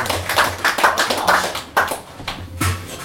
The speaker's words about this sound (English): Big round of applause. From Serbia.